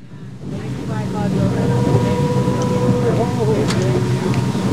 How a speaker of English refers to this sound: Captain James Netzel steers the small boat out onto the water. The people on board will become quite chatty later, but for now, everyone is quiet.